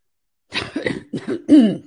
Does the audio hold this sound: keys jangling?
no